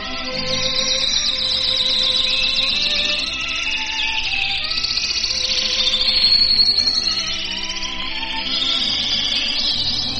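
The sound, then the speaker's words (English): Master Radio Canaries sing continuously in bright, rapid trills and warbles, fairly loud, with steady sustained lower tones running underneath throughout. “Well, our master radio canaries now bring a message of love and devotion to you, fair listeners, as they sing...”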